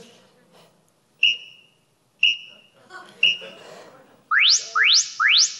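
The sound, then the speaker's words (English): An interval workout timer's start signal for a push-up session of 20-second work and 10-second rest intervals: three evenly spaced electronic countdown beeps, then three quick rising chirp tones in a row, loud. “And we're going to start the clock.”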